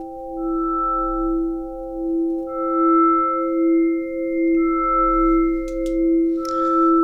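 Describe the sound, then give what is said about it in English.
A steady synthesizer howl of stacked sustained tones that waver slightly in loudness throughout, with a higher tone joining midway and a few faint clicks near the end. “All right, so can you hear that howling in the background?”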